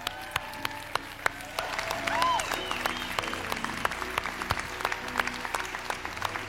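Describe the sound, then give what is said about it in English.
A crowd applauds steadily, with many sharp overlapping claps forming a dense, sustained patter, joined by a few cheers and whoops rising above the clapping, cheering and encouraging a group of people. “So let's, right now, all y'all walk to your right and just walk that way and let's give them a hand.”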